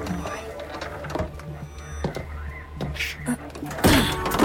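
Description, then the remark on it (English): A door being opened: a few mechanical clunks and rattles, ending in a louder sweeping burst, over a low steady hum with muffled voices in the background. “Someone's at the door. Whittaker? Already? Check the monitor. I can't tell. Same hat and coat, but I can't make out his face. Open the door.”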